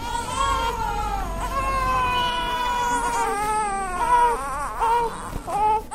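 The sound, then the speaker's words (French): Premature newborn babies in incubators, watched over by nurses, cry in thin, high, wavering wails that overlap almost continuously, fairly loud, with no talking, in the first room of the neonatal ward at a pediatric complex in Bangui. “Ici, dans la première salle, on y voit ces jolis nouveau-nés prématurément dans des couveuses, bien surveillées par des infirmiers.”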